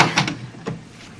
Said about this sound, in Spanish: Hoy un portazo te ha dado. Ay.